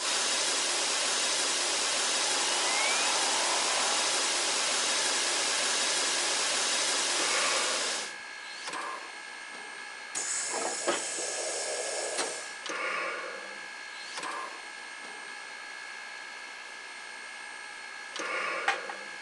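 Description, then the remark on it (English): Loud, steady rush of water pours from a spout into the metal tank of a steam locomotive's tender for several seconds, then cuts off, leaving a quieter hiss with faint clanks and knocks. “Make sure there's plenty of water in the tender.”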